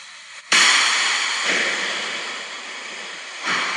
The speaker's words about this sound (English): A glass sphere imploding. Yep. That's, you know, a glass sphere, like, there's not a lot of space in a glass sphere. You know what I mean? It's pretty solid material.